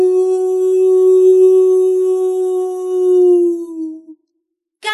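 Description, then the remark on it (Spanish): A dog, Salomón, lets out one long, loud howl that holds steady for about four seconds before sliding slightly lower and fading, followed by a short pause and a brief new sound. “Salomón aullaba.”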